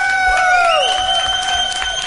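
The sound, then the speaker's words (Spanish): A live audience applauds a speaker and cheers loudly and continuously, dense clapping mixed with sustained whoops and shouts from a large crowd, with no pause in the noise. “Nunca en la vida había hablado delante de tanta gente que me mira y aplaude.”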